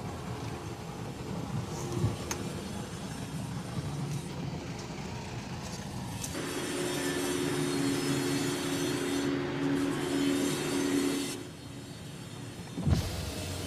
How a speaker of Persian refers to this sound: ماشین طلا از کوچه های تنگ و باریک محله قدیمی جلو میره